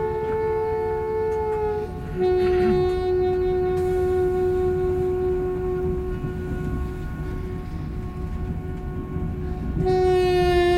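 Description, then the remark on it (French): A night train rumbles steadily along the rails, continuous, while a long, drawn-out horn tone sounds over it almost the whole time; no one speaks. “Les couchettes sont dures ces trains de nuit.”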